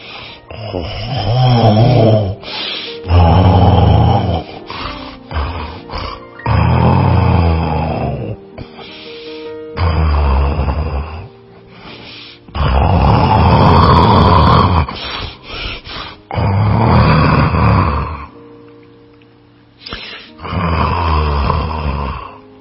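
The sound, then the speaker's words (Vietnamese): Loud, heavy snoring of a wolf asleep in bed after eating its fill, repeating in long rasping breaths, each snore lasting a couple of seconds with brief quiet gaps between, a deep rumbling rhythm over about twenty seconds. “Sói đã ăn no nê, lại nằm xuống giường ngủ gáy o o.”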